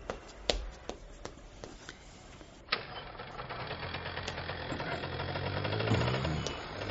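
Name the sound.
motorcycle engine running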